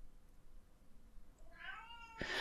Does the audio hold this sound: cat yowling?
yes